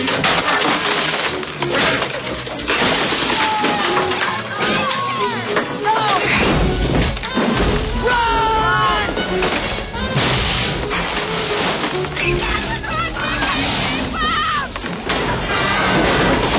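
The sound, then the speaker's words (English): Glass smashes amid a loud, chaotic din of crashes and thuds that carries on without pause, with shouting voices and crowd noise mixed through it. “Glass everywhere here now.”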